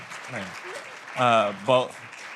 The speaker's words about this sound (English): I know y'all gave us a round of applause, but I'm going to ask y'all to give her one more round of applause, y'all. Let's go.